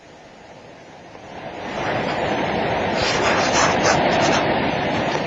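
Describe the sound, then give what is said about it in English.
A steady breeze rushes past, a broad whooshing roar that swells after the first second and holds strong, with gusty fluctuations and no voices. “A good breeze today.”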